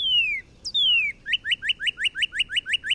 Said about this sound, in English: The Northern Cardinal.